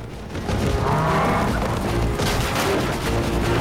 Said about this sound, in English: Suddenly, the herd of cattle comes thundering out of the jungle. The men start to run as the bulls stampede down the main street.